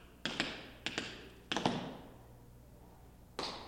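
Tap dance steps (a brush, shuffle and slap) ring out as sharp, crisp clicks in four short bursts, each a quick double strike, with a longer pause before the final one. No one speaks.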